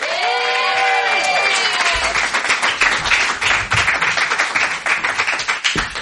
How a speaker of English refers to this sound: Let's all give a round of applause for this man